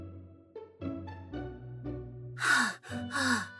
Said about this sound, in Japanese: はぁ、はぁ、肺なんてないのに、なんで息切れしてるんだろう。